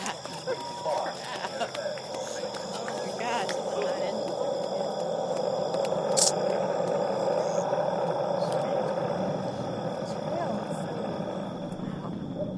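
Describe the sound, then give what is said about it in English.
A crowd at Cape Canaveral, Florida watches a rocket launch: many voices murmur and call out over a steady, rumbling roar that holds at an even loudness for the whole stretch. “The sound of Cape Canaveral, Florida is a crowd watching a rocket launch.”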